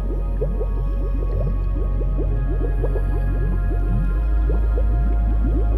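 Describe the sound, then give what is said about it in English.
Dense, continuous bubbling with many quick gurgling pops over a steady, loud low rush of churning water, as bubbles rise out of a lake, turn to white water and cascade back into the lake. No voices. “Over time, the bubbles seem more intense as they rise out of the water. And as they do, they turn to white water. Cascades back into the lake.”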